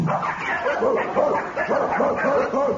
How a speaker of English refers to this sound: How are you going to make all these dogs keep quiet?